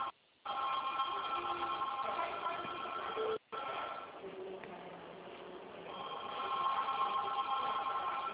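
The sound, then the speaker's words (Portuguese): A telephone rings with a loud, buzzy electronic tone that holds steady for several seconds, broken by two brief silent gaps, over a faint murmur of background noise. “O telefone não para de tocar hoje.”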